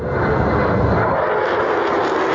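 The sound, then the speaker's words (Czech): An F-35 fighter jet roars overhead in a flyover, a loud, dense, rushing engine roar that holds steady and powerful for the whole moment, with no voices. “Takhle zní průlet stíhačky F-35.”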